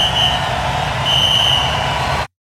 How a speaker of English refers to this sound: And if I'm not hallucinating, if there is a crowd, is it like the crowd sound effect from like John Madden 93 on Sega Genesis? Well, there definitely is a crowd. I didn't think about that. I think though. It's the Sega Genesis crowd sound.